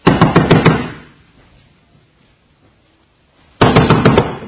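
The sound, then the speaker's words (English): Two loud bursts of rapid knocking on a door, roughly five quick raps each, separated by about three seconds of near silence, with no voices. “Because I'm not knocking at the door of your heart for salvation.”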